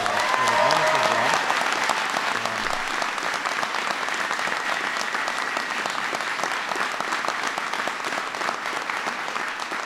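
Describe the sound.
Sustained applause from a large audience for a speaker at an event supporting a bipartisan immigration bill, dense and steady clapping for about ten seconds, with faint voices mixed in beneath it.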